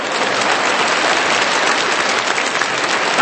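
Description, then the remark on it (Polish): An audience claps steadily for a few seconds in applause for mothers-in-law, called for by a comedian, a dense, even wash of many hands with no pauses and no voices standing out. “Brawa dla teściowych.”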